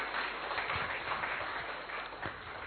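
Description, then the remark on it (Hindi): An audience on an eco-friendly hilltop campus claps with both hands to say thanks, a dense, steady patter of many hands that holds an even level throughout, with no voices over it. “और इस कैंपस में हम सभी को, आप सभी को चांस मिला, और इसके लिए आप सभी, हम सभी गीता दीदी को एक हाथ से नहीं दो हाथ से ताली बजाकर जरूर थैंक्स दे।”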